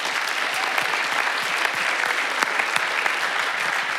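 Steady applause from a sizable church audience for the members, leaders, co-leaders and hosts involved in the His Men small groups, dense overlapping claps at an even loudness throughout, filling the whole stretch without any voices standing out.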